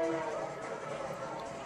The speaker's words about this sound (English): And there is a railroad sound effect in the stadium.